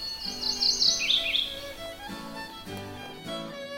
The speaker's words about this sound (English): And that's because on this bright yellow breast, there's a bib. And the bib is gray, but it has a black edging on it. And that apparently is why the name came. So, that's a mourning warbler.